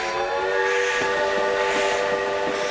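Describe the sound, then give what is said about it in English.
A steam train's whistle sounds continuously and loudly while rhythmic chugging beats pulse underneath, with no voices; the railroad arriving in the Arizona copper-mining region in the late 1800s. “But the arrival of the railroad changed everything.”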